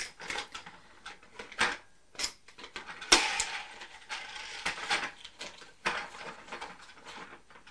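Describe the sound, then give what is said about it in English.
A small toy train's clockwork mechanism clicks and whirs in irregular bursts of ticking, fairly quiet, with no voices over it. “Is that Thomas the Tank Engine?”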